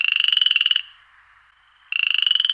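Loud, rapidly pulsing croaks of male frogs at a pond, in two bursts separated by a short pause, a buzzy trilling call with no voices.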